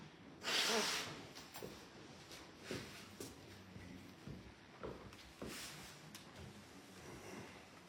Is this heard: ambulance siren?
no